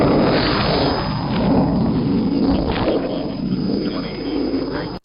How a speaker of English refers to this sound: Here across the band comes the roar of those tremendous engines.